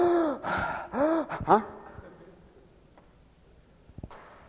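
A person performs exaggerated, theatrical breathing: a quick run of loud voiced gasps and sighing moans over the first second and a half, then near silence with a faint click or two.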